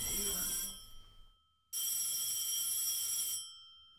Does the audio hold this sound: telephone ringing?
yes